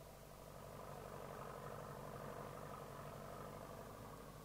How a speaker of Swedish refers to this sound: Och vårbruket är igång. Dammet ryker från traktorerna och det blåser snålt.